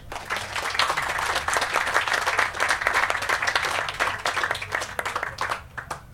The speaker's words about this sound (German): Einen Applaus